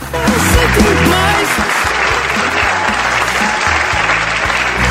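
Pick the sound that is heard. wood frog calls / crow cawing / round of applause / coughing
round of applause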